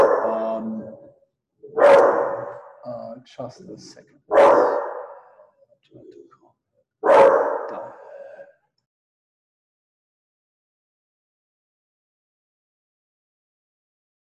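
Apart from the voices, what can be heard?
dog barking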